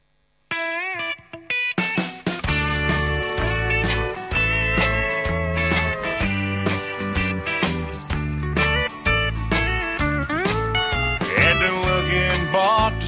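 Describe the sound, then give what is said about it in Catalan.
The instrumental intro of a country song, the first single from a 2011 album: a full band kicks in after a brief guitar lead-in, with a steady, pulsing bass rhythm and bright twangy guitar lines, loud, no singing yet. “és un disc que ja té un primer senzill, que és la cançó que ara mateix us presentarem.”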